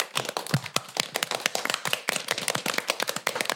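An audience applauds steadily, many hands clapping in a dense, crackling patter of sharp claps that holds an even loudness throughout, with no voices over it.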